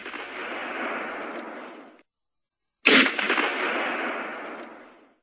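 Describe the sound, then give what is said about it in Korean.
Several gunshots crack out, each blast followed by a long, rolling echo that slowly fades. There is a brief silence between two of the reports, and no voices are heard. “몇 발의 총성이 울려 퍼졌다.”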